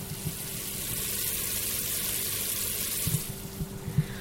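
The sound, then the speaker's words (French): Steady bubbling sizzle of sugar syrup cooking into caramel in a pan, the bubbles growing smaller as the water evaporates and the caramel forms, a continuous crackle with a few louder pops near the end, no voices. “On entend les petites bulles faire du bruit et elles deviennent de plus en plus petites.”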